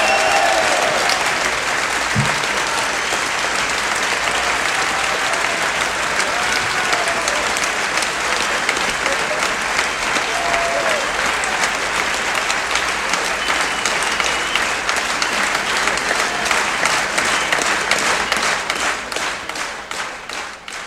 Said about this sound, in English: Fade down the well-deserved applause here at One Size Fits All on WGXC.